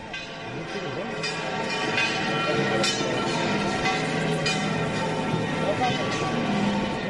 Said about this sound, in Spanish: Así recibían las campanas de la Giralda al Señor de la Salud en su entrada en la catedral en este primer lunes de Cuaresma.